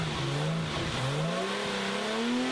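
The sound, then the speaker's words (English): A Nissan Racing S engine running 50 pounds of boost, its side headers glowing cherry red, revs hard and loud, its pitch climbing in a steady rising sweep with a brief dip before pulling higher again, over a dense roar with no voices. “50 pounds of boost on a Nissan Racing S.”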